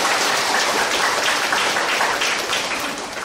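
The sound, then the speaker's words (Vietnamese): A crowd applauds steadily to welcome disabled people on a special Buddhist practice day, a dense wash of many hands clapping at once, loud and sustained throughout with no voices over it, easing slightly toward the end. “Chúng ta cho một tràng pháo tay để chào đón những người tàn tật.”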